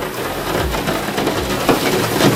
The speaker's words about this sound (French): la pluie sur le Velux